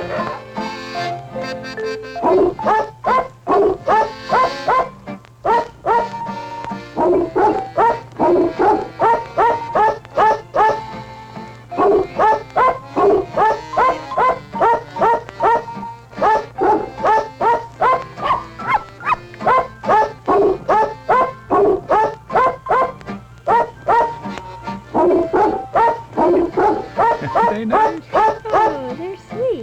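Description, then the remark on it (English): Dog barks pitched to form a melody, one bark per note in a steady, bouncy rhythm, loud, continuing almost without pause for the whole stretch. “I have got an appearance for you by the famous singing dogs.”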